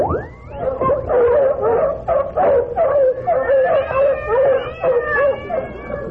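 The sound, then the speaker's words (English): A loud, chaotic chorus of dogs barking, yipping and howling mixed with yowling cats, overlapping continuously for several seconds with no pauses and no talking. “That ain't static, lady. It's raining cats and dogs.”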